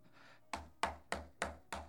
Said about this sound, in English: Until they hear a knock on the door.